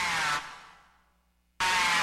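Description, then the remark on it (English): An Eastern Fighting Turtle, a North American turtle, gives its aggressive snarl: a loud, harsh, buzzing blast that cuts off, fades into almost silence, then bursts back in just as loud and raspy. “The aggressive snarl of the Eastern Fighting Turtle can carry for up to 5 miles across still water.”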